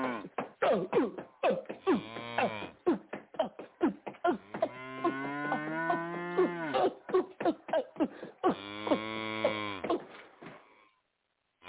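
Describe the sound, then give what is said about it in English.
Cows moo in a cow stable at 3 a.m., three long, loud, drawn-out calls, with rapid clattering and knocking sounds filling the gaps between them. “What the hell are you doing in my cow stable right now?”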